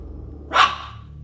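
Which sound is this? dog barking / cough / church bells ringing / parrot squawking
dog barking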